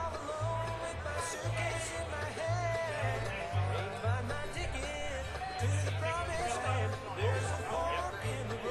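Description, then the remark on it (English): Dense crowd chatter from many overlapping voices at a live music event, a steady hubbub with no single speaker standing out, over a pulsing low-end thump. “Judging from the crowd out there, I'm expecting that money to be a nice bundle for you guys.”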